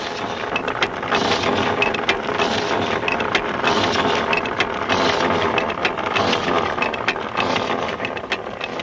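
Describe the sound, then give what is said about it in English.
A loud, steady mechanical grinding and clattering runs throughout, with rapid ratcheting clicks and a dense churning roar, as a crew of well diggers sends a rotary drill deeper into the ground in the mountains. No one speaks. “While Ben and his crew send the rotary drill deeper into the ground”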